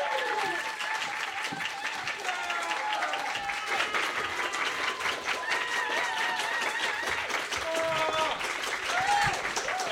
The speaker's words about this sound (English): Well, ladies and gentlemen, welcome to Fingers on Buzzers Live. And here are Lucy Porter and Jenny Ryan. Give a big clap and cheer.